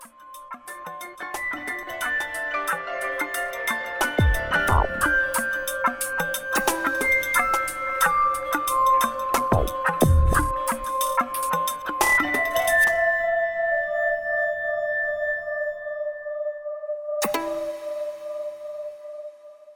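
A small chamber ensemble plays an electronica-style dance remix: bright, glassy mallet-like tones and sustained pitches, punctuated by sharp percussive hits in a choppy, dance-like groove, fairly loud and steady throughout with no voices.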